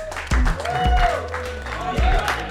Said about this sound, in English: Personally, thank you very much. Give yourself a clap.